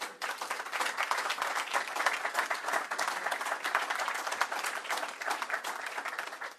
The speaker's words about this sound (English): I would like to give Governor Cuomo a big applause for the Startup New York program.